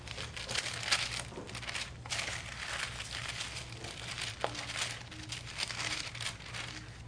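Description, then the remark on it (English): Dry paper rustling and crinkling as the pages of a paper Bible are flipped and handled, with soft irregular crackles over a low steady hum and no talking. “And I'm going to have to go old school today with a real Bible, the paper.”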